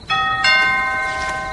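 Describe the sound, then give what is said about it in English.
A two-tone doorbell chimes, a quick ding followed by a louder dong that rings out and slowly fades, with no voices over it. “I'll get the door.”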